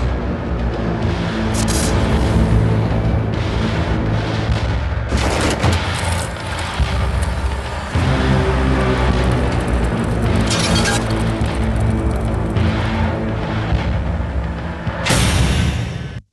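A LaFerrari hybrid sports car drives out of a truck, its powerful engine roaring loudly, revving up and down with sharp crackling bursts and pops, continuous for the whole stretch with no one talking.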